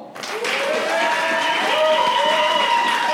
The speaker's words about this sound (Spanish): Yes. Esa es la energía. Esa es. Nada como un aplauso espontáneo, mae. Sí, se sintieron mejor, ¿verdad? Que no se tuvo que pedir, mae.